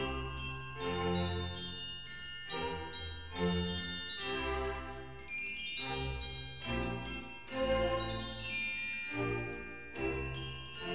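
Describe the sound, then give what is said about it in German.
Mozart plays a small, delicate melody on a glockenspiel before an audience, with Schikaneder on stage: bright, bell-like notes in short repeating phrases at a steady, lilting pace, with soft lower accompaniment underneath and no voices. “Und erst als Schikaneder sich abwendet, spielt Mozart die kleine, feine Melodie auf dem Glockenspiel weiter.”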